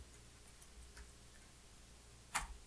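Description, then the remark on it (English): Slow, one-finger typing on a keyboard: a few faint, unevenly spaced key clicks, then one sharper, louder tap near the end, with no talking over a quiet background. “This means I'm typing with one finger.”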